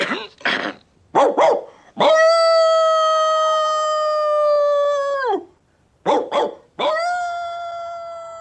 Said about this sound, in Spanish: Puedo intentarlo. Ladraré toda la noche si es necesario.